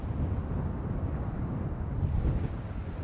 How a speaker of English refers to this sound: So it's really windy now. We're right on a viewpoint. Some massive rocks in front of us.